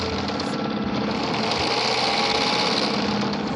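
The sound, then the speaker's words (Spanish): An old sewing machine runs steadily, its rapid mechanical whirring and clatter continuous and fairly loud throughout, with no voices present. “Ana se ha tragado el dolor del amargo silencio aquí, sobre la vieja máquina de coser.”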